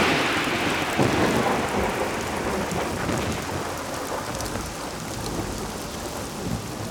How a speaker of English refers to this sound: The rain is slamming down